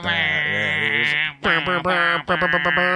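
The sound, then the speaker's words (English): Sheep bleating: one long, wavering bleat followed by two more loud, stuttering bleats that break into quick pulses, with no talking over them. “Bah, bah, bah, bah, bah, bah.”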